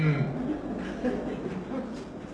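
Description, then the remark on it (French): A man's voice gives a drawn-out, low, fairly loud imitation of a cow in a meadow mooing, lasting a couple of seconds with a slightly breathy, chuckling edge. “Il y a des vaches dans les prés. Elle lève la tête et elle voit un train passer.”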